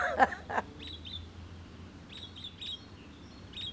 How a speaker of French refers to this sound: Des oiseaux.